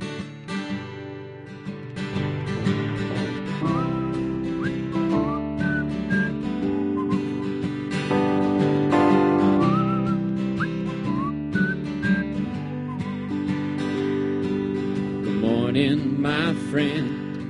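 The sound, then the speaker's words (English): Someone whistles a short, bright birdsong-like phrase, imitating a white-crowned sparrow's song, repeated a few times over a steady instrumental music backing at moderate loudness. “It's about a really just pleasant afternoon where I was surrounded by the white-crowned sparrow and their song. And I'm going to whistle it for you.”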